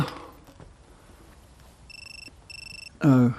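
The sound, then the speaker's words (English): A mobile phone that someone is sitting on rings with two short electronic trills, fairly soft and slightly muffled, as its owner calls it, followed at once by a loud vocal sound. “I'm calling my phone.”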